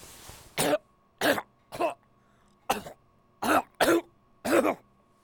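coughing and throat clearing

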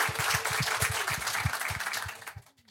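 applause

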